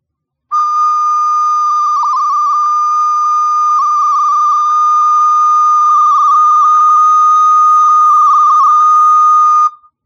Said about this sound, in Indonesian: kamu tiup serulingmu dan buka keenam lubang pengambil nada